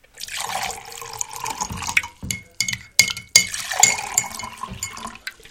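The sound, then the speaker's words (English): Coffee pours into a cup in a steady liquid stream, broken by a few sharp clinks and short pauses, with a rising gurgle as the cup fills. No one speaks. “You ready for some coffee, honey? Absolutely. I'll pour.”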